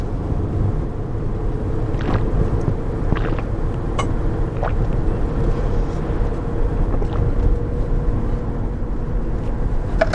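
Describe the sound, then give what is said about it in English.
Steady low rumble of idling car engines, six cars queued in a small village waiting to cross a highway, with a few brief higher clicks and squeaks over the constant drone; no one speaks. “In our little sleepy village, there's what I say, a six-car traffic jam. There's six cars waiting to cross.”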